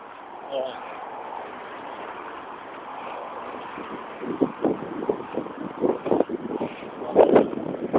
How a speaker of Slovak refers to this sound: Počasí je dneska... Je pekne, ako jasno úplne. Ale zas fúka strašne. Je taký 27 stupňov.